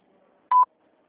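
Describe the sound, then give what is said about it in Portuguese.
A single short electronic beep, a steady mid-pitched tone lasting about a tenth of a second, sounds clearly against near silence: the prompt tone on a recorded Banco da Ecoval ombudsman phone line, after which the caller is asked to say their name. “Por favor, diga seu nome após o bip.”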